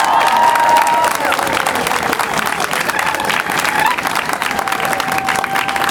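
A crowd at a community celebration breaks into loud, sustained applause, honoring the founders of a community group started 30 years ago, with cheering and whoops rising over the steady clapping and some voices calling out through the noise the whole time.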